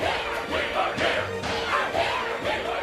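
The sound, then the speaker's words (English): A dense crowd of many voices, the Whos of Whoville in Horton Hears a Who, shouts loudly and continuously to make noise, a steady roaring clamor with rising surges of yelling, no single voice standing out. “We need to be louder! Get every Who to make noise! Everyone!”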